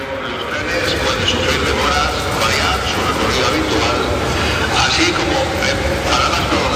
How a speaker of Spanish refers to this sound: Megafonía avisa a los viajeros que empiezan a llegar a la estación de que los trenes pues pueden sufrir demoras.